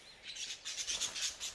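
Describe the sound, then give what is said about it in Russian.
Several sparrows chirp in quick, overlapping bursts with a soft fluttering rustle as the small flock flies away. The sound is fairly quiet, with no voices. “Воробьи улетают.”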